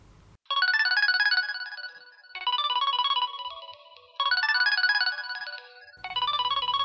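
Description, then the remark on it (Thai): A mobile phone ringtone plays loudly, a bright electronic melody repeating in four bursts separated by short gaps, with no voices. “เสียงโทรศัพท์ของเซธดังขึ้นหลังจากเงียบหายไปนาน”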